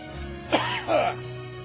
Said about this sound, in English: Yes, it's the Christmas season again. That means, of course, I have my eternal cough. What is it about the Northwest? I'm fine during the summer. Fall rolls around and I start getting this cough out of nowhere.